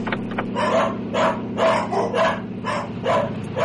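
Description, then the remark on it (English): Dogs bark in a steady run of about eight loud yaps, one after another over a constant low mechanical hum. “My dogs, you brought them along.”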